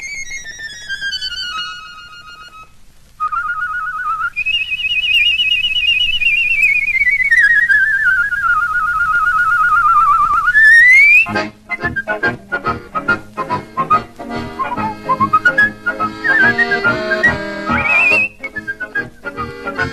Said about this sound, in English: I've got to say, …, I'm in awe of someone who can trill. A trill is a very fine technique in the art of whistling, I reckon.